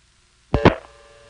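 Telephone line sounds from a tape recording of dialing a vacant level, reaching a number in McGackiesville, Virginia: after a moment of quiet, two sharp clicks from the dialing, followed by a faint, steady dial tone that holds to the end. No one speaks.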